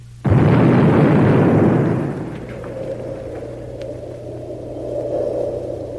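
sound effect, nuclear explosion sound effect

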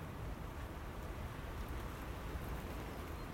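nature, light rain falling

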